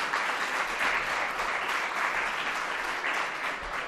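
A crowd applauds steadily, a dense wash of many hands clapping at once that holds even and fairly loud for a few seconds without a break.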